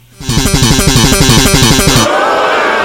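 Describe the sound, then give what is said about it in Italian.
A loud, dense clash of many instruments, played as a MIDI bass, pulses rapidly for about two seconds, then breaks off into a sustained wash of crowd noise as the audience whistles shrilly in disapproval. “Ti stanno fischiando, ma perché?”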